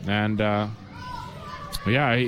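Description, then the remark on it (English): Children shout loudly in bursts at an ice hockey game, two high sustained yells at the start and another rising cry near the end, with a noisy background between. “I hope the fans have been able to hear us with those kids yelling over there.”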